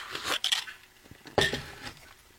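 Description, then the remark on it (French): A coffee cup is handled while a sip of coffee is taken, giving a few light ceramic clinks with a bright ring, then a sharper clink about a second later, with soft handling noise in between and no talking. “Je vais prendre une gorgée de café, ça vous dérange pas.”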